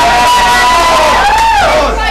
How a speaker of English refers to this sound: And everyone else in this room can make as much darn noise as you want, cheering on the girls, obviously, girls. Let me hear you talking! All the boys!